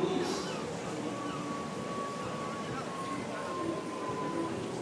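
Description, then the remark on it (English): A roller coaster hisses before setting off: a steady, broad airy hiss holding at an even level for several seconds, with a faint thin whine running through it. “Oh, hang on, it's hissing.”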